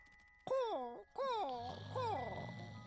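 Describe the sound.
A voice mimics seagull cries: three strained, high wailing calls, each bending downward in pitch, the last one rougher and trailing into a breathy rasp.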